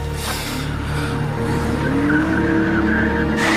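A car skids with a loud, sustained tire squeal that rises in pitch over a steady engine roar, lasting a few seconds with no voices.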